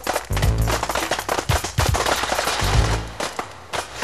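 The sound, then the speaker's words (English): Jiffy Pop popcorn popping furiously: a dense, irregular burst of sharp cracks and pops firing in quick succession, loud and steady for several seconds, with no voices. “Alright, let's pop, listen! Yeah, I think it's popping now, man.”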